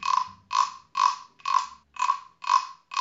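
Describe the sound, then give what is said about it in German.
A cricket chirps by rubbing its forewings together, a steady rhythm of about seven buzzy pulses at roughly two per second, clear with no other sounds around it. “Also, das ist die Geschichte von der Dings, der Grille. Die war müde, denn sie hatte den ganzen Abend und die halbe Nacht diesen hier gemacht.”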